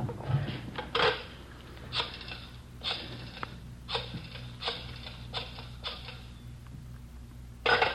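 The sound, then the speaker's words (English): A telephone being dialed, with a series of short mechanical whirring, clicking bursts spaced a second or so apart, fairly quiet, with no voices; the call is then let ring once as a signal. “You let her ring once.”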